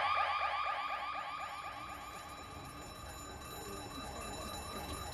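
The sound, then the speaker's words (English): A smoke alarm shrieks continuously, its piercing tone sweeping up and down in rapid repeated warbles, loud and steady throughout with no voices over it. “Smoke alarm?”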